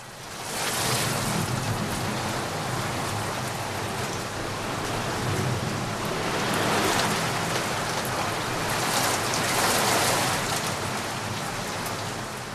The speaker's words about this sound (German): Levi lag in seinem Kinderzimmer auf dem Hochbett und beobachtete, wie die Regentropfen an die Fensterscheibe trommelten und immer wieder Wettrennen hinab in Richtung Fensterbank veranstalteten.